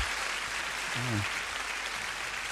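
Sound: applause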